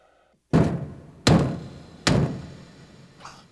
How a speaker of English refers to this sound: Remember the knight who knows? His message was to knock 3 times before the final fight.